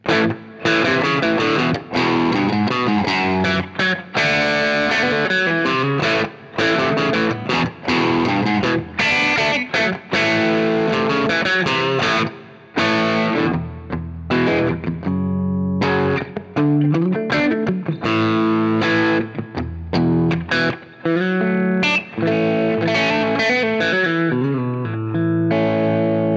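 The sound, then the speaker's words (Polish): Overdriven electric guitar played through a crunchy vintage-style Marshall Plexi amp, using the bridge and neck pickups together, loud, with sustained chords and riffing lines ringing out continuously for the whole passage, no voices. “Marshall Plexi to również brzmienie … i brzmienie na przykład …. Bierzemy sobie przetwornik przy mostku i przetwornik przy gryfie.”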